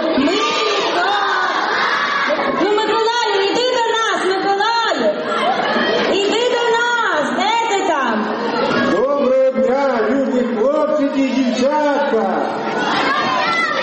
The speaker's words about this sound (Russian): Однако сегодня здесь были слышны не звуки боя, а детский смех и аплодисменты.